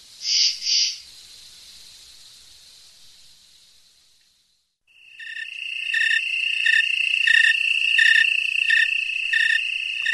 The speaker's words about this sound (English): This is On Point with the snowy tree cricket right there. That's recorded in October in the town of Wellfleet, Massachusetts.